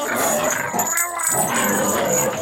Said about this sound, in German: Na, dieser Hund niest und bellt rückwärts.